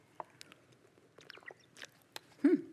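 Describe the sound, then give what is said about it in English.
Someone slurps a drink: a few soft, wet mouth clicks and sips, then a louder slurp near the end, all fairly quiet with no talking. “I could hear that slurping. Did you all hear that slurping?”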